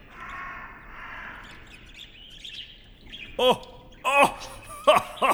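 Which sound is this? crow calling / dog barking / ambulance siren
crow calling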